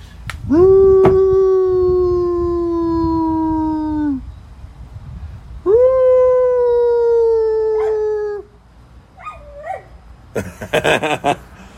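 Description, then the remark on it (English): A female dog howls loudly in two long, sustained tonal wails, each lasting several seconds, followed by a few short whimpering yips and a brief rustle at the end. “I bet I can get her to howl.”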